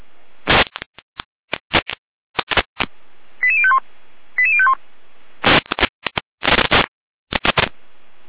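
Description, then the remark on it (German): Fire brigade radio test alert tones from the Jena dispatch centre for Saalfeld and Rudolstadt, group 2: two short stepped sequences of beeping tones, separated by bursts of crackling static and squelch noise, with no voices. “Leitstelle Jena mit Probenruf Florian, Saalfeld, Rudolstadt, Gruppe 2.”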